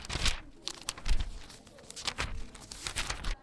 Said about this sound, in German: Vor uns liegen jetzt einige Tageszeitungen. Die schlagen wir jetzt auf und blättern durch.